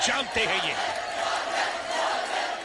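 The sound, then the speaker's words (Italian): A large wrestling arena crowd roars and cheers continuously for wrestler Matt Morgan during his match with Abyss, a dense wall of voices with a few louder shouts rising near the start, sustained and energetic throughout. “Il pubblico inizia da Matt Morgan.”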